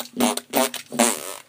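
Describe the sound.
A voice makes three buzzy mouth-fart bursts in a quick rhythmic run, like playful beatboxing, each one sputtering loudly before trailing off.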